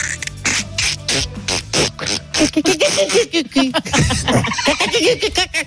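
A small dolphin named Oum squeaks and whistles in a rapid, chattering stream of warbling, rising and falling calls, loud, with a burst of clicky pulses near the start.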